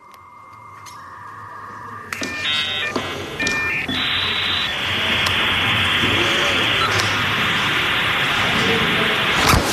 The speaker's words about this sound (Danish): En dejlig lyd. Jeg elsker den der lyd af dial-up-modems